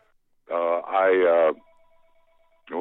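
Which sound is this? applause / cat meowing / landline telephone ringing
landline telephone ringing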